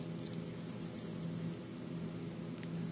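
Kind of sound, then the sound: household object, bible pages turning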